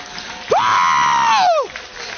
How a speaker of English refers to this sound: Glory be. Give the Lord a clap of prayer.